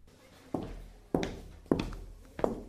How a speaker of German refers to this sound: Es wurde immer dunkler und leiser. Plötzlich durchbrachen Schritte die Stille.